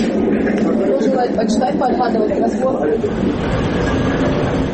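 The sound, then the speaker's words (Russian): A three-car Luhansk–Osynove passenger train, running once a day into the Donetsk region, rumbles along steadily, its continuous low roar filling the space while indistinct voices chatter throughout. “Поезд луганский осиноватый, а для многих местных жителей единственный способ дешево и быстро добраться в неподконтрольную часть Донецкой области.”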